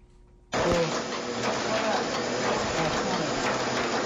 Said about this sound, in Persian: این صدا در یکی از مطبعه‌های چاپی در شهر جلال آباد است.